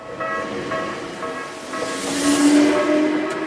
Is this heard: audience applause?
no